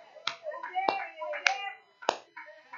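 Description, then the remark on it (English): Four sharp, crisp hand claps land at uneven intervals, with a voice talking underneath and between them. “Not only did I hear the sound, but I feel like clapping my hands now.”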